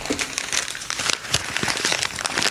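Paper being crumpled as it is fed to a dog, a dense run of crinkling and crackling that continues steadily for a few seconds with no voices.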